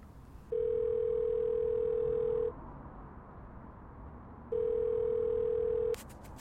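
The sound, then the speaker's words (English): An outgoing phone call's ringback tone sounds twice: two steady, mid-pitched electronic tones, each about two seconds long, separated by a two-second pause over a faint background hiss. “It's ringing.”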